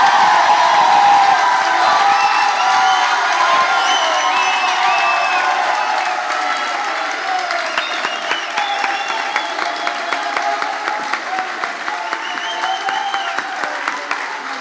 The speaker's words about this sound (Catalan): Ara, per ultimíssima vegada ja, ara sí que sí, rebem amb un fort aplaudiment l'Areu i la Pubilla 2022